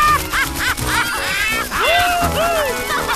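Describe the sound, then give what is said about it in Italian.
A flock of birds, being chased across the Pride Lands, squawks loudly and continuously, harsh rising and falling calls overlapping in quick succession, busy with a faint rumbling background underneath. “Attraverso le terre del branco la vivace comitiva rincorreva gli uccelli.”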